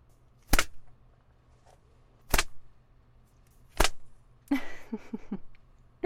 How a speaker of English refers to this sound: Oh, how does that feel? The leather slapping your thighs like that? I bet it stings, even through your pants.